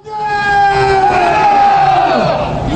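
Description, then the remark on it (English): A crowd of anti-North Korea demonstrators in Seoul, South Korea, shortly after news of Kim Jong-il's death, shouts together in a loud, sustained, strained chorus, voices rising and bending in pitch as the collective yelling carries on without a break. “Here's sound of anti-North Korea demonstrators in Seoul, South Korea, shortly after the news arrived of Kim Jong-il's death.”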